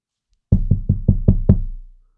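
A quick, even run of six solid knocks on the door of a flat, fairly loud, each blow thudding with a low wooden resonance that rings out briefly after the last one.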